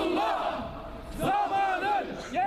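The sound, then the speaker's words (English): Turkish demonstrators outside the Saudi Arabian consulate in Istanbul shout in unison, protesting the crackdown in Bahrain with chants of "Killer Saudi king, you will be held accountable". The chanting rises and falls in loud, rhythmic bursts, with strained, high-pitched cries cutting through. “Killer Saudi king, you will be held accountable for what you have done, they shouted.”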